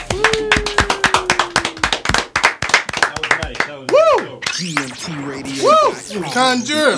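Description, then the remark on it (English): A quick burst of sharp, loud in-studio hand claps in a fast, slightly uneven rhythm for about three seconds, followed by voices calling out in rising and falling whoops. “let's get an in-studio clap.”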